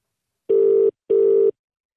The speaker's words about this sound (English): Let me give Niamh a call. It's ringing.